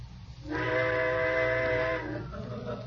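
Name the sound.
train whistle blowing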